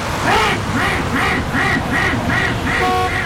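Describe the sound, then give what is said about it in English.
A duck in the road on Interstate 90 quacks repeatedly in a steady rhythm, about seven loud nasal quacks in a row over a constant low rumble of background noise. “Get out of the road, you stupid duck!”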